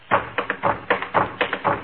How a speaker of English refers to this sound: Oh, that's easy fixed. Here, I'll drum on the radio cabinet.